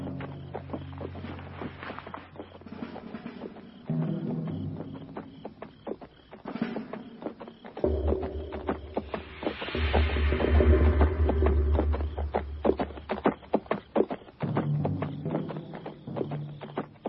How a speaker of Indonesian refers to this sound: Ada suara kuda berjalan ke arah kita.